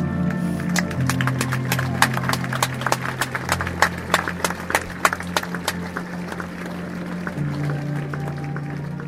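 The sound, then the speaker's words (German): An Italian audience claps steadily for the whole stretch, a dense patter of hand claps over sustained orchestral tones and held notes from the opera performance continuing underneath. “An der Stelle habe ich noch nie Applaus gehört.”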